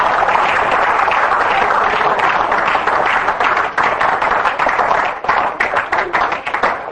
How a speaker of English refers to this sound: Give the Lord a hand clap for that. Hallelujah. Praise God.